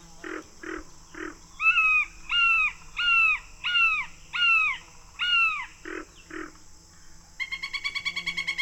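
A red-shouldered hawk screams a rapid series of loud, harsh alarm calls from its nest in a tall oak tree at the swampy edge of the Sopchoppy, about a dozen in a row, clear with no talking, before a faint trill of another bird takes over.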